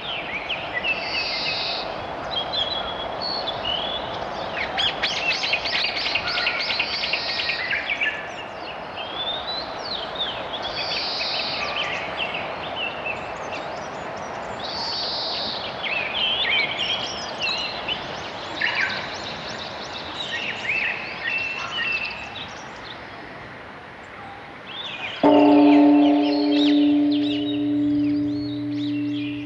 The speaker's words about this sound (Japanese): 岩手県平泉町中尊寺です。朝5時過ぎ、さまざまな動物が鳴き始めます。